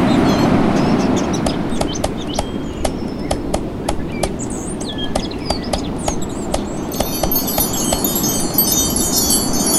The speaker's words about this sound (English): Focus on the sound of the birds. Focus solely on this sound. You may notice other sounds, but this is a sound at this moment you should primarily focus on. If you get distracted, gently refocus and shift your attention back to the birds.